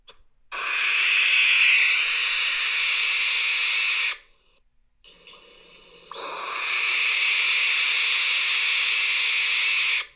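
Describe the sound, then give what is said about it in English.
Barn owls give two long, harsh hissing screeches, a broad breathy rasp lasting several seconds each, separated by a brief pause. The sound is loud and steady, with no talking. “So those are actual barn owls making those noises.”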